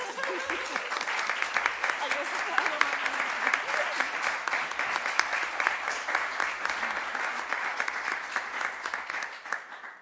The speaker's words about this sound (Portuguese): Ben, creo que o aplauso é dobremente merecido, non solamente pola espléndida exposición que acaba de facer, pola claridade con que a fixo, sino ademais pola disciplina o tempo en que a fixo.